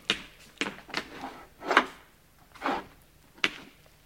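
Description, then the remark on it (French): A wooden table drawer is pulled open, with a series of short scraping slides and knocks spread over a few seconds and no voices. “Les récépissés de la poste sont dans le tiroir de cette table.”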